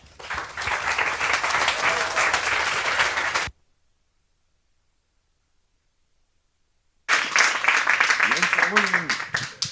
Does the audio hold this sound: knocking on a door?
no